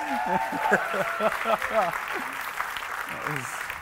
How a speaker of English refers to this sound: Oh! I mean, it was close. It was very close. Give Team A a round of applause.